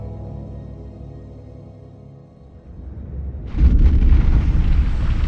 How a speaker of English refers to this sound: The explosion drifted up the cavern below like a distant thunderclap, clearly audible and yet curiously dampened.